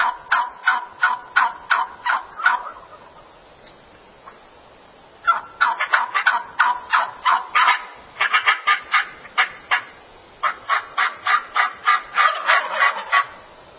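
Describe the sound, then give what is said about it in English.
A recording of wild turkeys, played for young people learning turkey calls, gives rapid bursts of gobbling and clucking, rhythmic runs of sharp notes broken by short pauses, fairly loud, with no voices. “Here are the turkey calls from the turkeys that they hear.”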